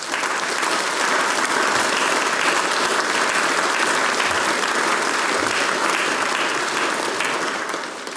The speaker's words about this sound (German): Großen Applaus für das Sumpt-Team.